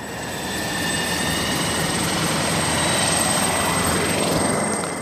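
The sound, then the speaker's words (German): A helicopter flies steadily overhead, out over the sea carrying technicians to offshore wind turbines, its rotor thrumming and engine whining in a dense, continuous roar that swells slightly partway through. No voices. “Minuten dauert der Flug hinaus aufs Meer. Soll ein Windrad repariert oder gewartet werden, müssen sich die Techniker aus dem Helikopter auf eine kleine Plattform abseilen lassen.”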